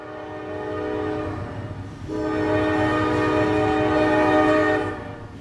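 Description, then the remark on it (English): A train horn blares in two long, loud blasts, layered over the low rumble and rattle of a train passing through Circleville, with no voices. “So yeah, trains, there's a lot of them.”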